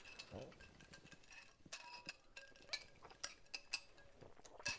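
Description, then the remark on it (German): Repeated bright clinks of drink containers knocking together, irregular taps and chimes with ringing tones, mostly alone with faint background murmur. “Wir können jetzt auch nicht hier die ganze Zeit klimpern mit den Dingern.”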